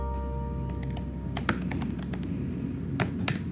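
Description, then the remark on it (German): Quick, irregular clicks of typing on a computer keyboard, fairly soft, with a steady low hum in the background and no voices, as someone types patients' symptoms into databases for rare diseases. “tippt die Symptome in Datenbanken für seltene Krankheiten wie Find Zebra oder Orphanet ein”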